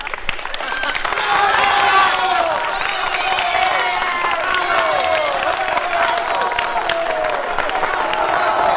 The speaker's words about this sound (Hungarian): Milyen kedves család, tapsoljuk meg őket!